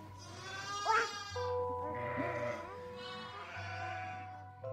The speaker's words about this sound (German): Das Schaf blöket. Sie hat Merkmal gefunden. Dies Blöken, das ihr am stärksten Eindruck macht, das hervorsprang, am tiefsten eindrang, bleibt ihr.